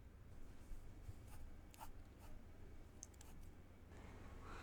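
A pencil scratches across paper in a steady stream of short, dry strokes, with faint ticks and scrapes and a low background hum. No one speaks.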